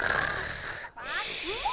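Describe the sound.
A voice imitates a dog snoring while asleep in its doghouse on a farm: a loud, rasping inhale, a brief pause, then a breathy exhale ending in rising whistly squeaks, clear.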